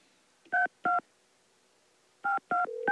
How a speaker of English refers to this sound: Oh, how's it ringing already? I didn't even finish dialing. How can it be ringing already?